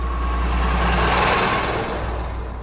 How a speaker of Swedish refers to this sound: De två tjuvarna har lyckats hoppa in i skåpbilen. De startar den och backar ut den på vägen.